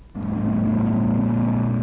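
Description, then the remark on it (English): A taxi's engine kicks in and roars steadily, a loud rumble of the car accelerating hard as it is driven at top speed toward the dam, with a sustained low drone and no voices. “Lois drives the taxi at top speed.”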